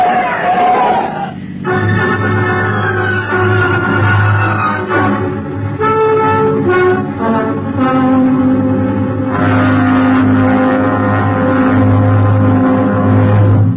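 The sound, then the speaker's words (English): A speeding car tears down a street at night, its engine roaring loudly and steadily, the low rumble holding throughout with shifting whining tones layered above. No one speaks. “So eager that we neglected to notice the speeding auto that came tearing through the night.”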